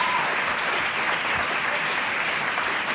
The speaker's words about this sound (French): que nous accueillons, bien sûr, avec chaleur et applaudissements.